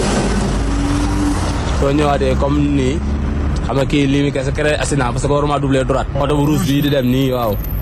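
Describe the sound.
A taxi drives along a dangerous road, its engine and road noise forming a steady low rumble throughout while a person talks over it in the foreground.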